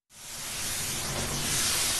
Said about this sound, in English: If the temperature is cold enough, the steady hiss of snow guns is what Killington's operations crew really wants to hear.